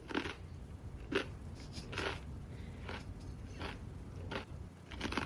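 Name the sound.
loud chewing of food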